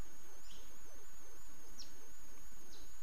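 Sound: birds calling nearby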